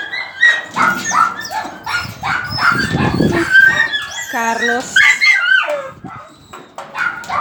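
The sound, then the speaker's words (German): A female dog yips, barks and whimpers in a quick, restless string of high-pitched cries, fairly loud, with hardly a pause for the whole stretch. “Eine neue Hündin.”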